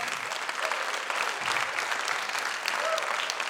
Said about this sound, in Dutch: Alsjeblieft zo een applaus geven.